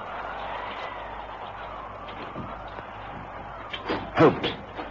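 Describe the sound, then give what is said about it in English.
A bedroom door is pushed open during a storm near the end, a brief creaking scrape and soft knock rising out of a steady low hum; fairly quiet, with no one speaking. “I'm going to push this door open.”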